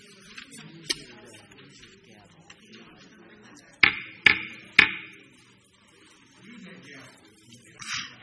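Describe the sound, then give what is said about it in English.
Three sharp, evenly spaced knocks of a hammer used as a gavel at a board meeting ring out loudly, with faint background murmur before and after. “This is my grandson's hammer, and he reminds me on a regular basis that he's loaned it to me for my meetings.”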